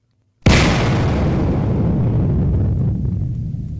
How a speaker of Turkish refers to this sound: Onlar çıkar çıkmaz da kümes büyük bir gürültüyle çöküp yerle bir oldu.